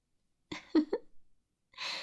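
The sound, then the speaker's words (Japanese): Harsh, ragged breathing of a person struggling during an exorcism: a few rough, voiced gasps in quick succession, a pause, then a long hoarse exhale, strained and almost animal-like. “まるで獣のような息遣いですね。”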